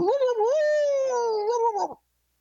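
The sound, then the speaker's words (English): A person imitates an Arizona hound dog's howl: one sustained, wavering, voiced howl of about two seconds that rises, holds and falls away, fairly loud, with no other sounds around it. “are you ready to close us out with your best old, Arizona hound dog howl, or maybe it's coyotes out there.”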